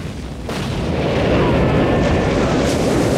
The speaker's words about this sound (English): As the choppers start firing at the riverbank, Erickson cowers from the explosions. The American gunboat explodes.